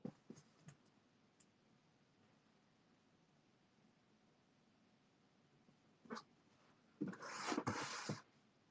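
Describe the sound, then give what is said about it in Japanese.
A few faint knocks and taps, then a loud burst of cardboard scraping and rustling near the end as the heavy outer box of a keyboard is shifted and handled. Nobody speaks. “なんか、これか？重い。外箱。”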